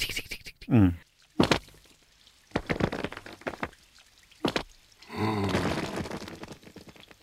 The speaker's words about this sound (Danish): Og den måde, det er både altså visuelt og lyden af de her regndråber, og den der, det der mikrokosmos, der foregår mellem tyngdekraften og regn og naturfænomenerne.